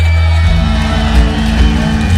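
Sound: audience cheering and whooping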